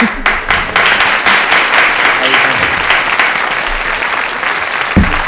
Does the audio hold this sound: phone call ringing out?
no